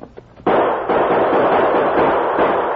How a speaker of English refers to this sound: You'll have to return the gunfire.